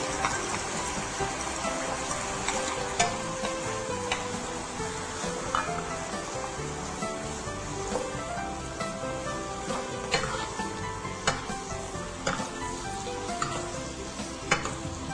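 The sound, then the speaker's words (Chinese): Steady sizzling of beef stir-frying in a hot pan as chives and seasoning are added, with repeated sharp clinks of a utensil scraping and tossing against the metal. No one speaks. “好，这个时候呢我们可以把这个韭菜呢放进来，然后也可以把我们的这个调味料好放进来。”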